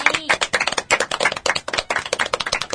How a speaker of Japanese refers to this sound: 拍手、イエイ。